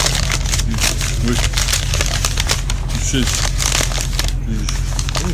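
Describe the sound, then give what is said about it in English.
Wrapping paper on a gift containing a pie rustles and tears open in a steady run of loud, crinkly bursts and crackles, with faint voices murmuring underneath now and then. “Open it up. Okay. I like the wrapping paper, it's very nice.”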